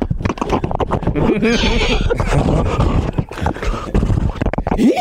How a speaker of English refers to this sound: You rode on a horse?